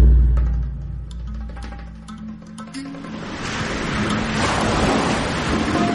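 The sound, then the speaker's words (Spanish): Sea waves breaking on shore: a low rumble gives way after a few seconds to a broad, steady rushing wash of surf that swells and stays loud, with no voices. “Hermano Mar.”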